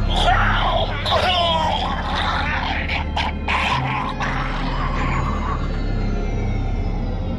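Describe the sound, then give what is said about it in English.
Strained gurgling and spluttering vocal noises heard through a phone line, with choked, broken bursts over a steady low hum, the sputtering thinning out after a few seconds and leaving the drone. “The sounds of gurgling and spluttering were sent through the phone line as the detective watched the patrol car swerve off the road.”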